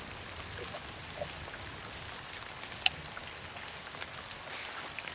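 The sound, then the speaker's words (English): Steady rain hisses without a break during a storm, with scattered drops tapping irregularly on a surface and one sharper, louder tap partway through. Nobody speaks. “We can wait out the storm here.”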